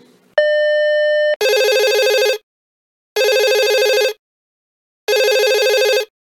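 A brief steady tone gives way to three loud telephone rings, each lasting about a second with short silent gaps between them. No one speaks.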